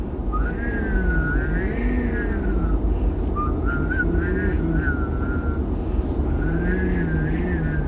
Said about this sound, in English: I used to be able to whistle hum. Can I do that? I can! I didn't know I could whistle hum still.